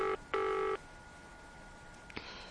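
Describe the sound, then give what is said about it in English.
Telephone tones as a call is placed to Wobbler: a brief electronic beep, then a longer steady buzzing tone, followed by quiet and a faint click. No one speaks. “I've got to phone Wobbler.”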